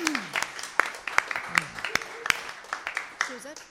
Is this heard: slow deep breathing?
no